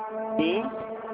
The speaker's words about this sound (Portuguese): Só um momentinho, tá passando uma moto aqui.